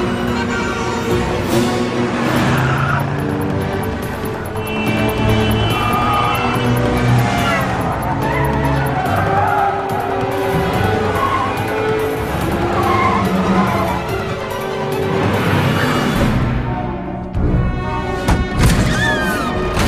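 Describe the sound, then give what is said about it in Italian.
A car roars along Glenby Street at high speed, heading to the river, tires squealing and skidding in sharp, whining bursts over a dense, continuous engine rumble, loud for the full stretch. “Imbocchiamo Glenby Street per evitare il traffico di quelli che vanno in chiesa, perché quelli guidano troppo piano.”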